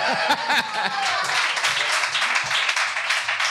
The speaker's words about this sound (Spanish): Vamos a hacer aquí el programa porque esta señora es mi suegra. Un aplauso para...